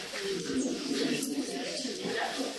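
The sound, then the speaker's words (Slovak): Pigeons or doves coo softly and continuously in a temple setting, their low, throaty calls overlapping at a steady moderate level, with a faint murmur of voices blending into the background. “So všetkými kozami, kravami, ovcami, vtákmi.”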